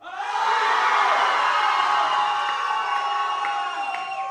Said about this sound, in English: Let's have a scream break. Somebody scream.